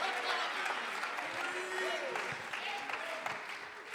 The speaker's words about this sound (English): Somebody say praise the Lord. Clap your hands. Lift your voice. Magnify him.